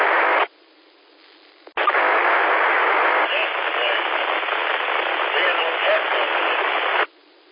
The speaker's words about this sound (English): Yeah, not making out much, as you say, just scratching and static there,